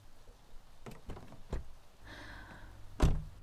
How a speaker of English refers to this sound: He unlocked the car doors and started closing the window.